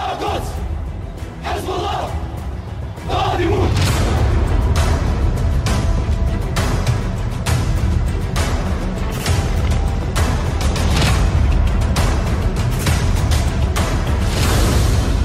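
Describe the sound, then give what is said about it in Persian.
A large crowd of people shouts cries of revenge together, a loud continuous roar of angry cries that swells after a few seconds and stays dense and sustained, with no single voice standing out. “این فریاد انتقامی که از مردم شنیده شد در سراسر کشور، در واقع این فریاد انتقام سوخت حقیقی موشک‌هایی بود که پایگاه آمریکایی رو زیر رو کرد.”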